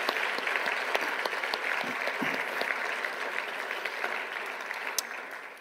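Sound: audience round of applause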